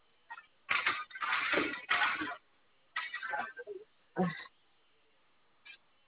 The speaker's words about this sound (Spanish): De acuerdo. Voy a cerrar esta puerta, ¿eh?